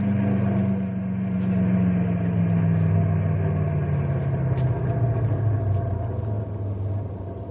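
Deep, steady rumble of the heavy engines of a caravan of six large trucks idling, a low throbbing drone that holds throughout with a slight downward drift in pitch, no voices present.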